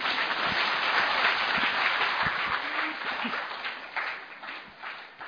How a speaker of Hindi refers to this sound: फिर से तालियों से हम उनका अभिनंदन करते हैं। बहुत अच्छा सुनाया और दिल से और भाव से और प्यार से है ना।